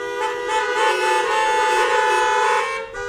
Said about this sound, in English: If you think that, would you honk your horn?